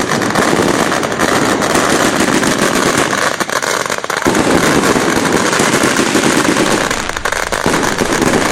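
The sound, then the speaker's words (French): A relentless, deafening barrage of firecrackers and fireworks set off at 10 a.m. for the opening of a shoe store, dense rapid-fire bangs and crackles overlapping continuously with barely a pause, loud throughout. “Et là, c'est la première fois que je vois un feu d'artifice à 10h du matin pour l'ouverture d'un magasin de chaussures dans un vacarme assourdissant de pétards.”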